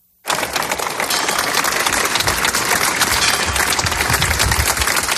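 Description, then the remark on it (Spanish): A crowd outside the town hall bursts into sustained applause, ending a minute of silence in memory of four girls. Dense, steady clapping from many hands holds at a strong, even level for several seconds. “Aplauso.”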